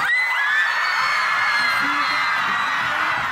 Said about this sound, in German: Ein Jubelschrei hallt durch die Nacht von Buenos Aires.